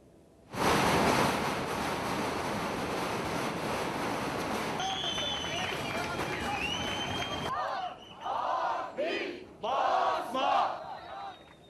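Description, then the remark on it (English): A large crowd of anti-government protesters in the underground station at Taksim Square, Istanbul, Turkey, roars and shouts loudly for several seconds, then breaks into rhythmic chanting, voices rising together in repeated bursts of syllables with short pauses between. “Crowds of people have held an anti-government demonstration in the underground station at Istanbul's Taksim Square.”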